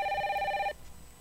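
A telephone rings with a single warbling electronic trill that stops abruptly after less than a second, leaving a faint background.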